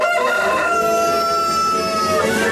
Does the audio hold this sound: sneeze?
no